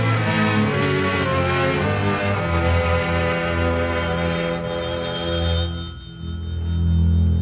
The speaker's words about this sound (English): Now that eternal telephone again. Maybe it's the Navy calling to confirm airplane transportation.